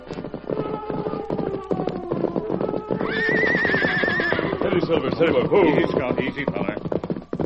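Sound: horse whinnying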